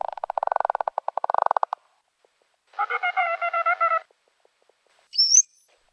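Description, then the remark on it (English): Bottlenose dolphin sounds: a rapid train of echolocation clicks that speeds into a buzz, then a raspy, pulsed squawk lasting about a second, and finally a brief, high rising whistle. “Okay, now let's listen to the bottlenose dolphin. It also starts with echolocation, and then the other two registers.”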